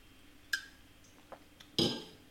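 Someone takes a drink of water from a glass: a bright clink, a soft tap, then a louder clatter and rustle as the glass is handled, with no talking.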